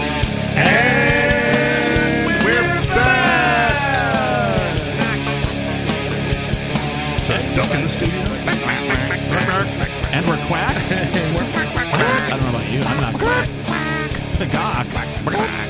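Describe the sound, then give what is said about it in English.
In a studio, voices loudly imitate chicken clucks and duck quacks, a busy, overlapping stream of squawky honking calls that fills the whole stretch without pause. “In the studio tonight, it's the bagok, the bagok, and the quack.”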